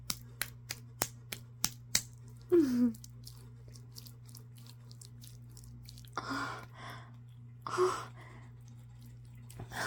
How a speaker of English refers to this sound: Oh, listen. Listen to this dildo slap against my butt pussy.